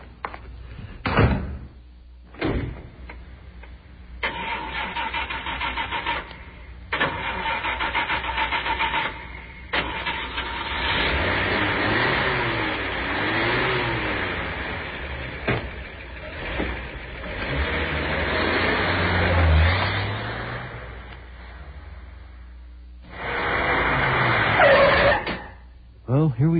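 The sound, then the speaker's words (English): A car door slams shut, then an engine cranks and starts, revving as the car pulls away and drives steadily along to go look at a house, with a couple more door thumps before it settles. “Oh, why don't we just go over and look at it? I'll take you in my car.”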